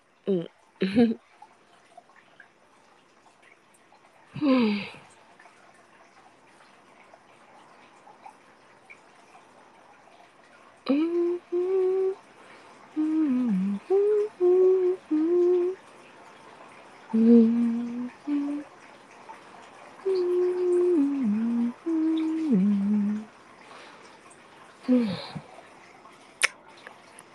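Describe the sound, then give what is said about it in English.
Bathwater sloshes and drips in a tub as a person bathes, in a few short bursts near the start and end, with a voice talking in the middle over quiet room ambience. “Water ambient sounds. It doesn't always have water ambient sounds. Not all rooms come with a bath in them.”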